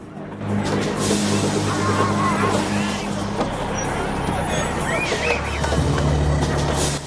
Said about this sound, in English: The bus crawls through the prisoners. The inmates wave and thump their fists on the bus windows.